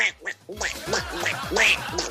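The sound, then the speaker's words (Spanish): A cartoonish duck voice quacks and squawks in a rapid, garbled string of nasal bursts, loud for about two seconds, like a voice imitating a duck. “El día del Pato Donald también, estamos celebrando varios días hoy.”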